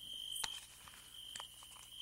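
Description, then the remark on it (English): Crickets trill steadily in a high, continuous drone in quiet woods, faint overall, with a couple of brief clicks or rustles breaking in. “Hello, I'm back, and so are the little crickets.”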